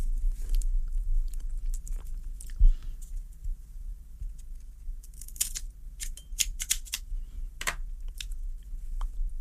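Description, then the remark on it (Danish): Soft rustling and handling, then a cluster of crisp, sharp snips and crunches as scissors cut through a real cigar, several quick bursts in irregular rhythm with no talking. “Så nu skal jeg lige finde saksen her.”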